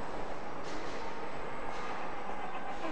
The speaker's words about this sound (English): I can hear trains and stuff.